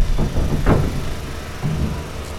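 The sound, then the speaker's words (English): Dump trucks, SUVs, school buses and cars rumble across a blacktop pier on Boston Harbor with a deep, steady low drone, broken by a few brief clanks and thuds as wheels roll over a steel ramp into the hold of a cargo ship bound for Haiti. “Dump trucks, SUVs, school buses, and cars rumble across a blacktop pier on Boston Harbor. They clatter over a steel ramp and disappear into the dark hold of a cargo ship called the Caligaldana that will soon depart for Haiti.”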